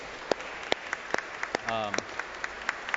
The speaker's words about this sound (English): So let's give them a round of applause, because they really support.